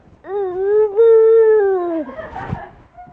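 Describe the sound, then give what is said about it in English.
A voice imitates an owl with one long, mid-pitched hooting tone that catches briefly near the start, then sags and fades into soft breathy noise. “What does an owl say?”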